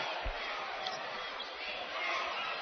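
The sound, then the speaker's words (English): A large crowd at a basketball game between Monmouth and Navy roars in reaction to an offensive foul called on Monmouth, a dense, sustained wash of voices, loud and unbroken for a few seconds, with no single voice standing out. “You can hear what the crowd thinks.”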